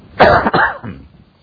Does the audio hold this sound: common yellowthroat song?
no